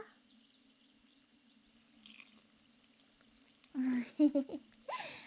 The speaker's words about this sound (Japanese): さて、最後に普通のお水で流すからの。いくぞ。